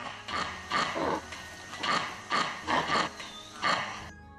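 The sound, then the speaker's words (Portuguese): A male monkey with a large nose gives a series of loud, nasal, horn-like honks, about six or seven in a steady rhythm, with no talking over them. “Acontece que essa estrutura nasal cria uma câmara de eco que amplifica o chamado desse macaco, que lembra até uma buzina.”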